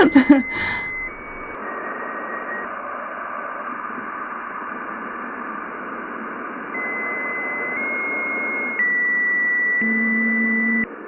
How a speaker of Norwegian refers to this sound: Det høres ut som en gammel modem eller noe annet.